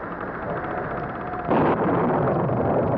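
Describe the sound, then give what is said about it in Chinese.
A steady, rushing rumble of an approaching wind and rain storm builds, then at the halfway point a sudden loud thunderclap bursts in and rolls on as a sustained, heavy roar without fading. “风雨快来了， 希望风不要太大。”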